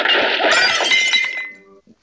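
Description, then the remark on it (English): Dishes are swept off a table in a movie scene, crashing and shattering in a loud, dense burst of breaking crockery and glass, with bright ringing clinks that fade over about a second, followed by a few scattered tinkles. “And he clears the table.”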